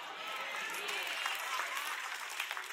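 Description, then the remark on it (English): A steady wash of audience applause, dense and continuous clapping from many hands, holding an even level throughout with no voices standing out. “All the applause, just stop.”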